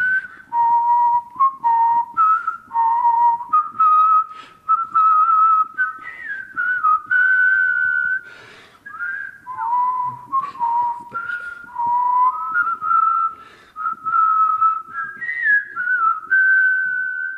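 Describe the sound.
A person whistles a catchy TV theme tune spontaneously, without practising first, for about seventeen seconds, clear, with steady melodic phrases and brief pauses for breath, no talking.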